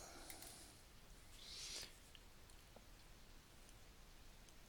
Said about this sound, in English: Oh man, it's raining outside.